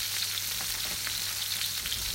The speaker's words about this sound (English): It's a bit fiddly because it's on such a high heat, as you can hear. You want the tomatoes to really start sizzling.